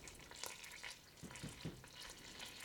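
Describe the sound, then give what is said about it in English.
Milk sizzling as it hits melted butter: a steady, soft crackling hiss with scattered brighter pops, continuous throughout with no voices. “I suppose that's because the milk has water in it and the butter is fat. So it's, you know, it's not spitting, but it's definitely speaking.”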